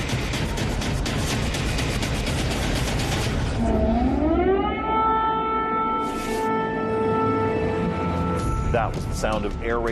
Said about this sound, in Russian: Этот звук воздушных сирен в Киеве всего несколько часов назад.